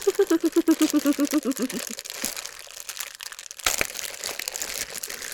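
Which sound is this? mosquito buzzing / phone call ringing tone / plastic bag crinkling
plastic bag crinkling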